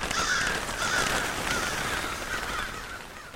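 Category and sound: bird, crow cawing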